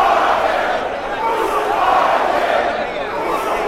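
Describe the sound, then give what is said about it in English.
A large crowd demanding the crucifixion of Jesus shouts and roars continuously as Pilate presents him, many voices blending into a loud, angry clamor that rises and falls without a break. “The crowd continued to demand crucifixion.”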